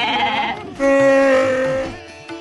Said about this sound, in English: They call it the Transhumance Festival. Pasture to the pavement? In other words, down Madrid's main street were literally thousands of goats.